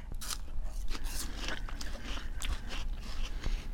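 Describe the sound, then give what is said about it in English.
Moist, crunchy chewing of a dish of superworms and grasshoppers with Honeycrisp apple, Greek yogurt, honey and bee pollen, with repeated irregular crackly bites and soft squishy smacks over a low steady background hum, no talking. “Okay, so this next one is a very playful dish and it features superworms and grasshoppers with Honeycrisp apple, and it has Greek yogurt, honey, and it also has bee pollen.”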